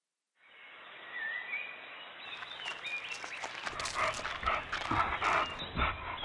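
A dog pants, quick breathy puffs that start soft and build into a rapid, steady rhythm, with no voices present.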